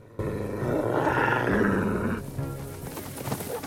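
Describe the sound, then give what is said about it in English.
A loud, deep roar of saber-toothed tigers rises sharply and holds for about two seconds, then breaks into rougher growling and snarling with no talking. “The tigers start to run.”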